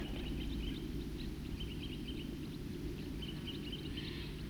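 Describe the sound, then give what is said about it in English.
A small flock of birds, one of them a red male, gives short, clipped toop calls again and again, scattered, over a steady low rush of running water at Cataract Creek. “Those birds are still tooping here at Cataract Creek.”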